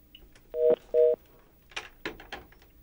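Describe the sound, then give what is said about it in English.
Two short, loud telephone touch-tone beeps in quick succession, followed by a few scratchy clicks and line noise bursts, as the phone system has trouble during a radio call-in. No one speaks. “Seems we're having trouble with the phone system now.”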